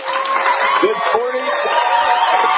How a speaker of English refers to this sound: Yep, and they're shouting and yelling and screaming and all that stuff, and that's a good thing.